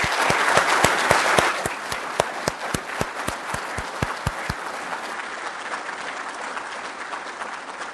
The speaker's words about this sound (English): It is with great honor that I ask everyone to please give one round of applause for our family, families who have lost.